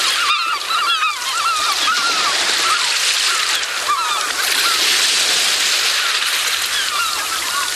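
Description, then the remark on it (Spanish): A steady rush of surf breaking on the shore swells and recedes, nearly covered by a flock of birds honking and calling repeatedly. No one speaks. “Es posible que ahora lo tengas delante, naciendo, porque el mar siempre está naciendo.”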